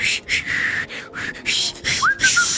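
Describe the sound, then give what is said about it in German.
A person imitates the breathy, airy whistling of a woman sitting beside them on a fairly full train, a series of hissy puffs of air with one faint tonal whistle slipping through near the end, fairly loud, with no talking. “Der Zug war relativ voll und hat die ganze Zeit so psychomäßig gepfiffen. Also dauernd so.”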